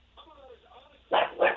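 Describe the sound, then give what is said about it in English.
A dog barks twice in quick succession, loud, in the background of a listener calling from East Meadow into a sports radio phone-in, heard over a thin telephone line after a moment of faint, muffled background sound. “turn the radio down, turn the dog down.”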